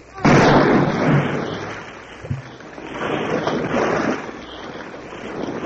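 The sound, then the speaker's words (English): A Chilean corvette's cannon, fired by Midshipman Riquelme, fires its final shot, one loud boom, then a long roaring rumble lingers, blending into rushing wind and surging water as the battered corvette sinks, with a brief low thud partway through. “Thus, drunk with glory, Midshipman Riquelme fires the final shot, and the battered, broken corvette sinks beneath the waves.”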